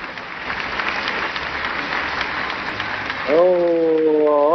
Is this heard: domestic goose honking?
no